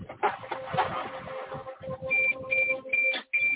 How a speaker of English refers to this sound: You've never heard a beep like this? This is the second drone. It can't connect in this very area.